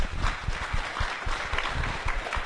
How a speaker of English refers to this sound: Round of applause for our new members.